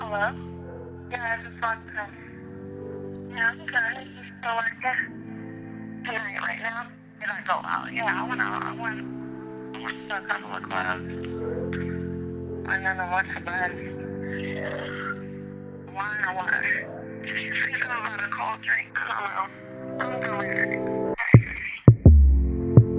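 A slow R&B song plays from a recording, a soft, low male vocal drifting over warm sustained synth chords and deep bass at a steady, moderate volume, with a brief clatter near the end.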